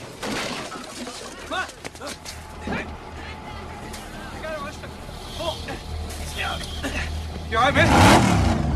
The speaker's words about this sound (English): The vamp car speeds out of control, hits the central reservation, spins onto its back, and slides along the freeway before coming to an abrupt rest and crumpling against a concrete pillar.